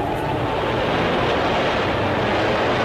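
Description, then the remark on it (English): Heavy surf from the storm Donna on the Jersey shore, with winds topping 85 miles an hour and 10-foot storm tides overwhelming seawalls, roars and crashes without pause: a dense, loud wash of breaking water mixed with gusting wind rumble across the whole clip, with no voices. “10-foot storm tides overwhelm seawalls.”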